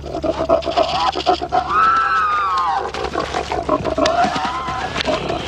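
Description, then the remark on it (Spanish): A crocodile roars loudly, a rough, rumbling bellow with guttural pulses that swells into a long, drawn-out groaning call, filling about five seconds without any talking. “Cuando los cocodrilos rugen, sus mensajes pueden hacer tanto ruido como un avión.”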